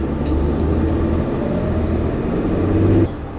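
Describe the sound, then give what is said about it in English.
Steady low rumble and road noise from inside a moving city bus, continuous and fairly loud, with engine hum droning throughout before easing slightly at the very end. “That's why she know that you're on this bus getting everybody's opinion.”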